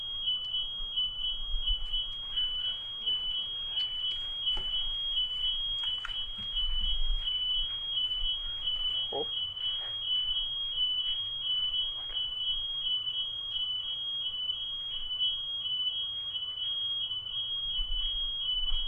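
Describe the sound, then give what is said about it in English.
A smoke alarm beeps continuously in a steady, rapid pulse, a loud high-pitched tone that carries through the whole stretch over a low background hum, with no one speaking. “Open up in our awareness to embrace even the alarm with loving kindness, accepting it, not being annoyed or irritated by it.”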